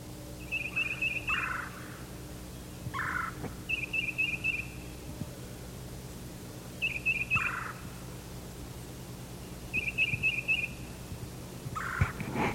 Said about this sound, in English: Now the exchanges are coming from the north. Probably one of the birds that just left his tree.